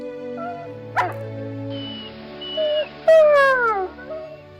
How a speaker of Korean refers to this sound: 발치에 모여있던 늑대들이 내가 다시 돌아온 것에 신이 났는지 낑낑거리며 뛰어올랐다.